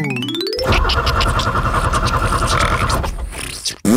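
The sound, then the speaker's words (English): A quick rising whistle, then a truck engine sputters and chugs loudly and unevenly for a few seconds before cutting out without catching, like a failed attempt to start. “I'm about to power up the chuckle truck and head out on a brand new adventure.”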